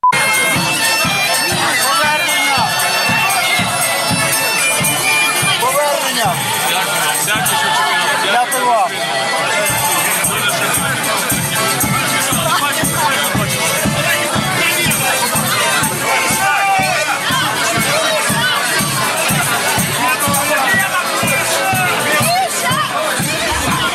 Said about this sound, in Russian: Слушайте, ну это же красота, это же прям в аэропорту, оркестр, гульба. Вот, мне кажется, медведя только не хватает. И такое ощущение, что кричат по-русски там, выкрики.